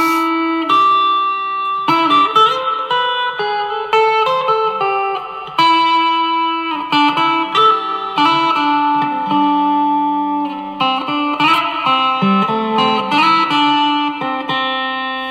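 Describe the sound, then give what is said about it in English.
A distorted electric guitar plays alone in single-coil pickup mode, with chunky chords and ringing single notes in a steady, loud phrase and a bright, slightly thin single-coil bite. “And here is just the final mode, the single coil.”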